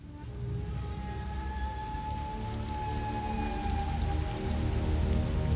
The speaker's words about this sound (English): It was a summer shower, but it was pouring rain as fast as a winter storm.